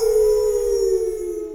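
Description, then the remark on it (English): A person imitates a dog's howl as a closing howl for the Old Dogs REI Network: one long, loud, sustained wail held steady for over a second and then gliding slightly downward as it trails off, with no talking. “From one old dog to any others out there, I'll give you the last closing howl here.”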